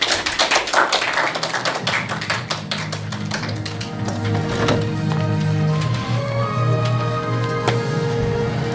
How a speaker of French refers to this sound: Cette émission a été produite grâce aux élèves, au travail des élèves de l'option, que vous pouvez applaudir très fort.